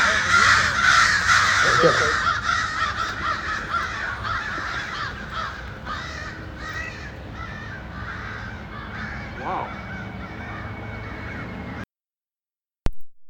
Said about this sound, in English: Least a dozen crows mobbing a great horned owl. Period. As the recording started, the birds were in a deciduous tree on Menlo Boulevard, about 200 feet south of the recording position. Actually, make that 300 feet.